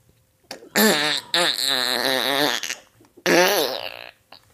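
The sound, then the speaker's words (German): A voice imitates a man's loud fart in a cinema during a moment of silence, in three buzzing, wobbling bursts, the middle one longest, with short gaps between them and no spoken words. “Und da hat ein Typ dann wirklich gefurzt, lautstark im Kino.”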